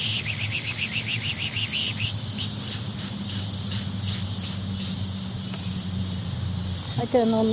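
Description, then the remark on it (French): Bright, rapid goldfinch chirps and twittering repeat in quick bursts over a steady low rumble, with a brief voice breaking in at the very end. “Tu peux aussi le Goldfinch qu'on a entendu.”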